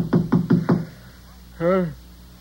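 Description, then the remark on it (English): Four quick, firm knocks on a door in an even rhythm, followed after a short pause by a brief voice calling out. “Just a minute, I'll get up and open the door.”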